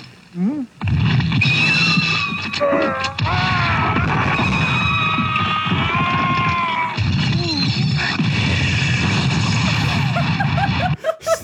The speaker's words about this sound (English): That was not the explosions of a building. That was the explosions of a man.